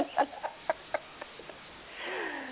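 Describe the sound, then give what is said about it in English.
A duck quacks in a quick run of short, nasal calls that taper off, followed by a brief drawn-out squawk, heard faintly over a muffled line. “It was the duck that started it.”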